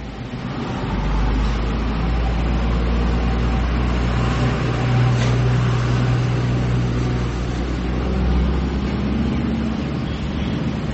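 A truck rumbles steadily through traffic, a loud, continuous low engine drone with road noise for the whole stretch.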